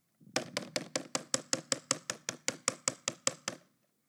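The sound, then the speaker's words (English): A rapid, steady run of about sixteen knocks on the front door of a little townhouse. The knocks are fairly loud and evenly spaced over a few seconds, with nothing else around them. “And I'd come up to her door and I'd knock on the door.”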